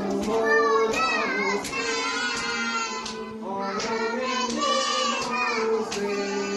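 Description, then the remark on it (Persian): Steady, rhythmic thumps of small children beating their chests with their hands in mourning, roughly one every second, moderately loud beneath a group of voices chanting together in a mournful, sustained tone. “و با دستان کوچکشان بر سینه می زنند و وقتی نام علی اصغر و رقیت را می شنوند، حرارت غمهایشان بالا می گیرد و هوای دلشان پا به پای ما بارانی می شود.”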